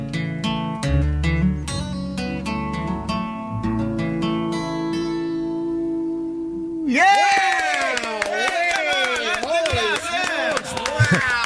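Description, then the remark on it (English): A song's closing notes cut off into a burst of loud whooping and cheering from a small group of musicians applauding themselves, celebrating boisterously, on the radio show Planet M with Matt Cord in 1992. “Applauding themselves on Planet M with Matt Cord in 1992.”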